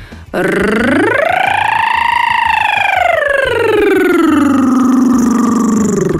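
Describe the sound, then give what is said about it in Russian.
A single voice doing a vocal exercise holds a buzzing rolled R, sliding smoothly from low pitch up high, then gradually back down again, like a siren. Steady and loud for about six seconds, with no talking. “То есть, например, на звук «р» пытаться опять же снизу уйти наверх и опять вниз.”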